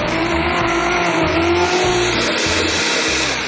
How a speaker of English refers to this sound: Okay, so that's been blending for about 2 minutes. It's nice and smooth, and it's ready to drink. So there you have it, your green smoothie.